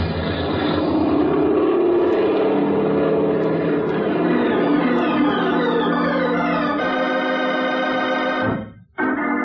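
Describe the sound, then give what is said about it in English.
A small propeller plane's engine roars loudly and steadily as it climbs back into the sky toward the San Mateo airport, its drone rising in pitch as power increases, then cuts off abruptly near the end. No one speaks. “Without the wheels touching the ground, we were climbing into the sky again and back toward the San Mateo airport.”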